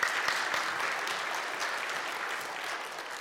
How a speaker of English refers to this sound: You can clap. It's okay.